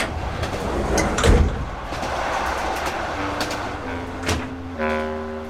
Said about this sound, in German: Die Tür zum Abteil wurde aufgeschoben.